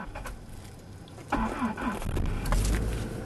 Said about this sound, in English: And then there's that next little hurdle, excavating the car. It sounds like I'm prying open an ancient tomb, but that's just my beat-up Subaru. I turn the key and say a prayer.